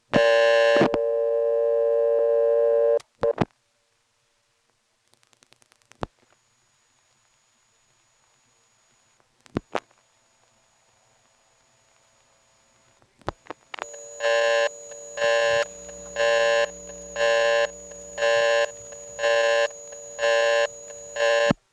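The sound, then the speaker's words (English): A loud buzzing telephone line hum for a few seconds, then near-silence broken by scattered rotary switch clicks, before a rapid pulsing tone takes over the line. “Here's another example where the hum on the line and the rotary switch sound are not quite so prominent.”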